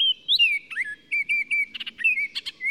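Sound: baltimore Oriole song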